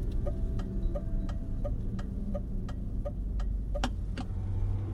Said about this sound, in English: slows the car down to a crawl, a precaution he takes before most corners.